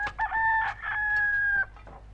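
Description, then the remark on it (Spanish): A hen calls out once in a loud, drawn-out cry lasting over a second, with a few short clucking bursts around it, with no talking. “¿Cuál es el ave que pone la granja? La gallina.”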